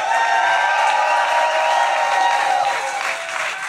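A large audience applauds and cheers loudly and steadily, a dense wash of clapping with whoops and shouts running throughout, continuous without pause, as comedians are brought up on stage at the Skankfest comedy festival.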